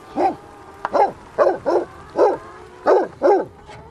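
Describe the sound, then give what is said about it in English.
A Pyrenean Mountain Dog kept to protect a flock of hens barks seven times in a steady, loud series of deep, drawn-out woofs, and no one speaks. “Why do you choose the Pyrenean Mountain Dog for flock protection?”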